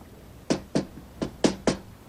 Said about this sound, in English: The chief parks the car and gets out. He He approaches the door and taps on it.